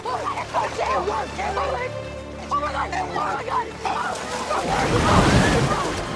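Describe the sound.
Water sloshes and churns heavily as an alien steps onto a swimming pool cover, which gives way; the alien flails and sinks as the cover engulfs it, the splashing building to a loud, turbulent surge near the end, with a voice talking over the first part.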